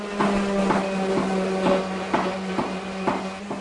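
A steady motorized whine with a low hum runs throughout, broken by regular scraping strokes about twice a second, as grinding, sanding, shaping and tempering are done to create a traditional ADS (adze) carving tool at the Wrangell Carving Shed.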